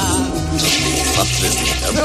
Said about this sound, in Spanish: Con gran expectación tras la puerta, la espera fue eterna. Hasta que se escuchó el sonido tan característico de la cisterna.